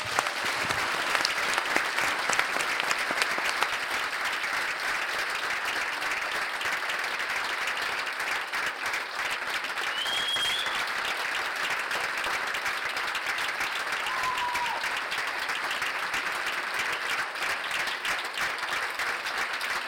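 The crowd of the Onbespreekbaar Festival at 30CC applauds steadily for the whole stretch, a dense, even wash of clapping with a few faint whistles and cheers rising above it.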